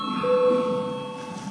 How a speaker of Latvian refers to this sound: Lūdzu zvanu. Balsosim par sesto priekšlikumu.